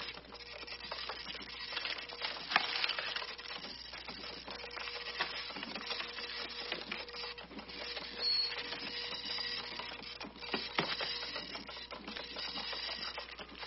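A dot matrix printer chatters steadily in a dense, raspy mechanical buzz with rapid clicking and occasional louder bursts as the print head sweeps, continuous for the whole stretch with no one talking.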